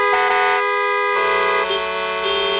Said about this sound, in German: Das klingt wie eine türkische Hochzeit, oder? Klingt nicht besonders harmonisch, aber macht bestimmt Spaß. Wenn sich die verschiedenen Hupen jetzt aber noch sozusagen absprechen und einer bestimmten Reihenfolge hupen würden